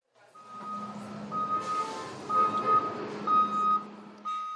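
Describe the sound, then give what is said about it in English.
Steady, evenly spaced reversing beeps ring out over the low rumble of an idling heavy vehicle at the Anchorage School District's school bus transportation depot in Alaska, loud, with a burst of hissing air partway through. “Every weekday morning around 6:30 a.m., Michael Herzog inspects a school bus at the Anchorage School District's transportation depot.”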